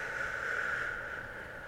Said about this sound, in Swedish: Gud, min näsa piper. Jag ber om ursäkt för det, det låter jättekonstigt.